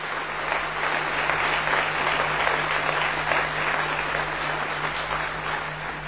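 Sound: audience applause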